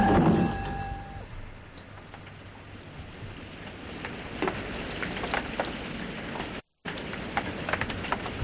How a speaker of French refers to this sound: Dehors, il pleut toujours.